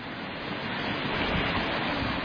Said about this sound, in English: And the creek is just roaring. And as you can see, it's white water. Coming down there, and a lot of ice still on because it's cold.